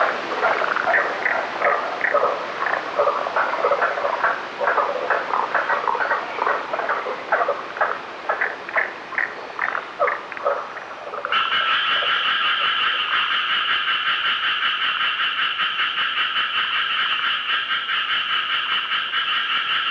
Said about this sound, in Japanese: 姿は見えなかったのですが、調べてみたところ、おそらくヒキガエルの仲間のようです。